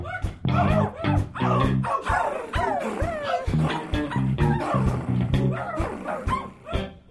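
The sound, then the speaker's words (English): Several dogs in a neighborhood of mixed elevations bark and yip in a rapid, overlapping flurry, loud, with some rising whiny howls mixed in, continuing for about seven seconds with no talking. “Sometimes I have to go down, yeah, I have to go down, and through this neighborhood of mixed elevations, occasionally there are dogs and they go.”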